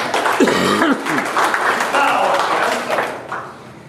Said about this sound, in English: Give you a hand of applause.